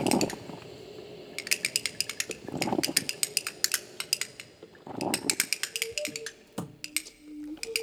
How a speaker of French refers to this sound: J'écoute les décibels de la vaisselle à Bruxelles.